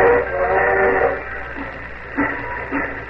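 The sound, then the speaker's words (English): The 7:55 train pulls away from a station, a steady mechanical rumble and hiss with whistle-like tones, a few rhythmic chuffs swelling near the end, with no voices. “Well, it looks like you're going to miss the 7:55.”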